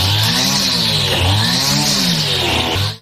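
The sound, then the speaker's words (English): A woman's voice convincingly imitates a weed eater, a steady buzzing engine drone with wavering pitch that runs continuously for about three seconds, loud, then cuts off abruptly. “That was a weed eater.”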